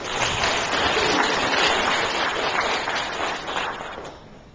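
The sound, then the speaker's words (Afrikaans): Audience applause, a dense steady wash of many hands clapping at once, holding strong for several seconds before tapering off slightly at the end. “Nou, dankie, gee hom 'n hande klap.”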